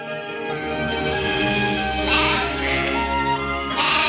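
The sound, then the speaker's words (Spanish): Sheep grazing at the foot of mountains at sunrise bleat in a loud, wavering chorus, several voices overlapping continuously with a few sharper cries rising above the steady baaing. “El sol naciente tiñe de rosa las montañas, al pie de las cuales pastan las ovejas.”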